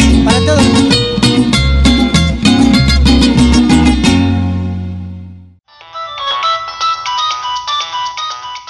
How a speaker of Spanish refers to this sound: Si quieres que tu celular suene así